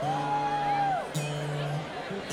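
An audience member yells out a song request in a long, drawn-out shout with a sustained, wavering pitch, followed by a second shorter call, over a low crowd murmur.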